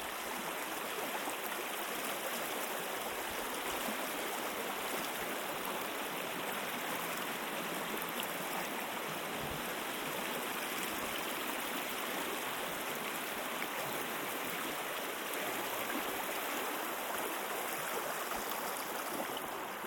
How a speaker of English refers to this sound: so we're now going across the skipping stones. You hear a big splash. You're not getting wet.